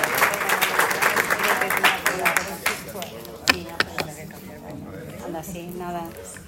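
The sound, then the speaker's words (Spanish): An audience bursts into dense applause for clinical trial researchers at an awards event, loud and crowded at first, then thinning out and fading over a few seconds as a voice begins speaking over the last scattered claps. “Un fuerte aplauso para todos y darles nuestras más sinceras gracias.”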